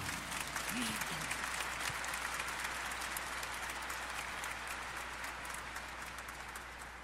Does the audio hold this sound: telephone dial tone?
no